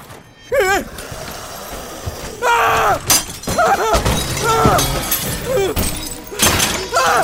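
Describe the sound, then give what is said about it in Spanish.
Countless undead smash glass and doors to force their way into a storeroom: glass shatters and wood splinters in repeated loud, crashing bursts, with heavy thuds as doors are smashed, while strained vocal groans or cries rise and fall between the impacts. “Y lo que en un principio eran unos cuantos, ahora eran incontables muertos vivientes, rompiendo vidrios y puertas, abriéndose paso al interior de la bodega.”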